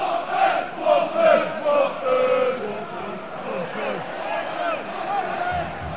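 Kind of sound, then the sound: crowd, football crowd chanting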